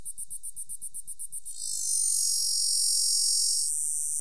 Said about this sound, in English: 4 dozen different species of cicadas, each with their own distinctive song